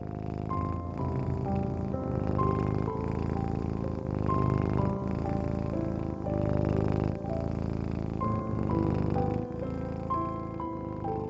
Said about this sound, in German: die kleine Zauberkatze, liegt warm auf deinem Bauch. Sie schnurrt.